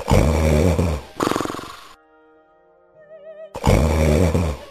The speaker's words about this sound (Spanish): Cuando terminó el banquete, volvió a su habitación y enseguida se oyeron unos ronquidos que temblaba toda la casa.